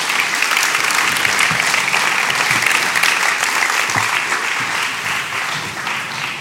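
Steady, dense applause from a sizable audience welcoming three guests onto the stage, loud and sustained throughout with no voices standing out, tapering only slightly toward the end.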